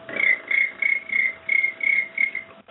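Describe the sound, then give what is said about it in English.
A girl imitates a cricket's chirping: a steady run of about eight short, high, buzzy pulses in an even rhythm, clear, with a faint constant hum underneath. “Cricket.”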